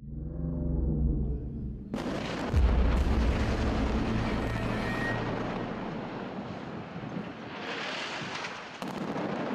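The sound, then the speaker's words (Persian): A low droning rumble gives way to a sudden, loud cannon blast, followed by a sustained roaring explosion that rumbles on, with another sharp burst near the end, as a cannon loaded with double gunpowder bursts apart. No voices. “سردار دستور داد باروت 1 از توپ‌ها 2 برابر شود تا گلوله او به فاصله بیشتری پرتاب شود، اما باروت زیاد توپ را منفجر کرد و سردار و 20 سرباز ایرانی کشته شدند.”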